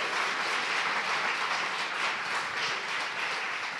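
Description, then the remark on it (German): A steady wash of audience applause, many hands clapping densely and evenly for a few seconds, fairly loud, with no voices over it. “Also einen großen Applaus nochmal für Henning Barth, unsere ostfriesische Langratte.”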